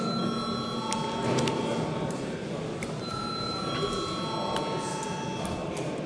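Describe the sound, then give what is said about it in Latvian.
A steady electric bell rings continuously for several seconds, a bright metallic tone over a constant murmur of background chatter. It is rung to call deputies to vote on a bill amending the commercial law in its second reading. “Lūdzu zvanu.”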